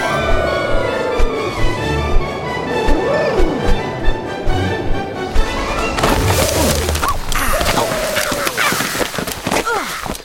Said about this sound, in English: I think that was a gum tree we just smashed.